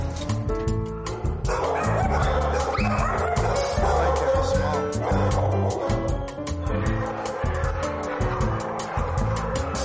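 Several dogs at a dog rescue bark, yip and whimper nonstop in a loud, overlapping chorus that fills the space for the full stretch, with a steady low rumble underneath.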